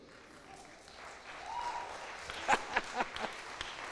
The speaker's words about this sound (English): I didn't expect that. They never clap for me at home.